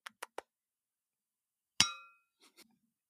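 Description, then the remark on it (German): Three quick light clinks of glass as drinks are raised in a toast before a birthday celebration, then a louder ringing clink that decays over a fraction of a second, followed by two soft knocks; no voices are heard. “Wir trinken auf die Liebe. Den Motor. Und Antrieb. Für alles. Cheers. Prost.”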